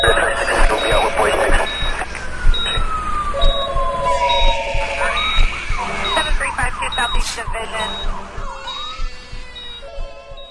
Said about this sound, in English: The phones are ringing, pagers are beeping, alarms are alarming, and the thought process is interrupted and mistakes happen.